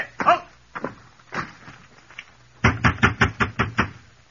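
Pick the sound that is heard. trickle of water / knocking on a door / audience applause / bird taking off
knocking on a door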